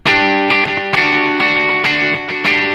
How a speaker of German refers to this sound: Ja, oder wir gehen mal auf ein Echoplex, das hat noch mehr Höhen.